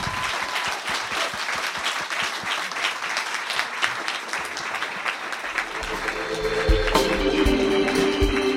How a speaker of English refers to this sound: So please give a warm round of applause and thanks to Neil Strauss.